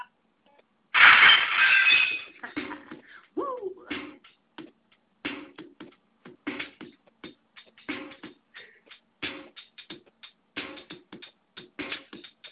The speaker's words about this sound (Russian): Первым ударом бокала ознаменовано начало новой главы нашей жизни.